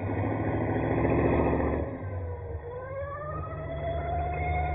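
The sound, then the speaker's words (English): An army patrol car siren wails with rising, sweeping tones over the steady rumble of a car engine, swelling louder as it approaches. No one speaks. “Just an army patrol car.”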